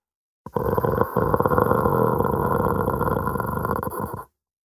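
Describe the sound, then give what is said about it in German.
A dog, Hanno, sits in a corner guarding a bowl and growls low and steadily for several seconds, a rough, rumbling snarl with a brief catch near the start, loud and unbroken by any talking. “Hanno setzt sich in eine Ecke, bewacht den Napf und knurrt.”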